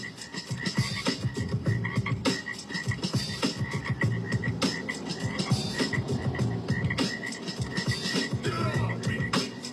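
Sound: frogs croaking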